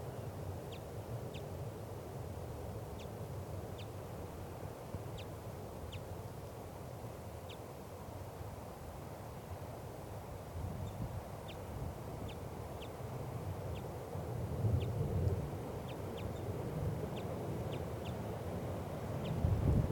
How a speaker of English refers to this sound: That recording, it looks like it was a lone bird. It's 1:25 p.m. And it's above the net setup now in the lodgepole pine. Stop. Recording. Wild bird. Very weak.